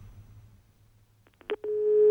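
A low line hum gives way to a couple of clicks and then a steady, loud electronic telephone tone with a buzzy harmonic edge, as a caller's phone line to a live broadcast drops.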